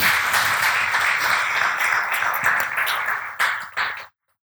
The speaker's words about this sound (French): Vous pouvez applaudir la louange, ils étaient formidables.